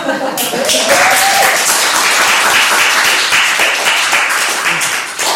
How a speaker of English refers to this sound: Okay, so another round of applause for the squad.